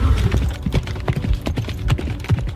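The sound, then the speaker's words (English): Horse hooves clip-clop in a steady, brisk rhythm as someone rides the horse, each footfall a sharp knock repeating several times per second, fairly loud with no voices. “It took a breath, like, oh, I'm on a horse.”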